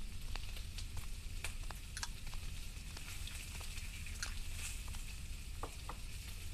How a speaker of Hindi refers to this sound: बेटा बर्तन बहुत ज्यादा हैं, तुम हटो मैं धो देती हूँ।